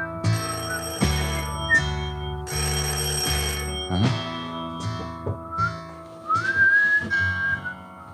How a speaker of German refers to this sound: Es ist Sonntag, der 12. Juli, kurz vor 11 Uhr vormittags, als es an Cliftons Tür klingelt.